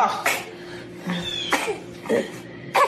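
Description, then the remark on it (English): A baby coughs in four short, raspy bursts spaced irregularly over a few seconds, moderately loud, with faint vocal sounds between the coughs. “She's like, ah, when the baby's like coughing.”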